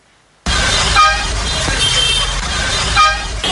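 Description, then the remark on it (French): Mile 17, the busiest bus station in the southwest region, in Boya, the regional capital, full of dense traffic noise, with car horns honking repeatedly over the steady rumble of engines and a faint murmur of voices, with no commercial motorcycles present. “This is Mile 17, the region's busiest bus station, yet no commercial bike is in sight.”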